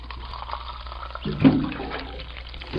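A water cooler gurgles, a short burst of bubbling and glugging water that swells midway and then settles into a soft watery wash, clear with no voices.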